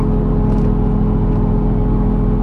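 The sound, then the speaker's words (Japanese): The engine of the Limited Express Ozora No. 12, bound for Sapporo, idles before departure with a steady, loud droning hum and a faint whine on top, constant, with no talking. “はい、今聞いていただいたのはですね、アイドリング状態のところでウィーンとかっていう中で車掌さんが、出発する前の、アナウンスをしてるんですね、”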